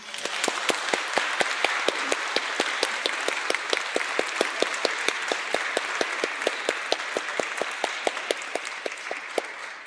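A crowd applauds steadily for about ten seconds, with dense, even clapping and a few sharper individual claps cutting through the wash; no one speaks over it.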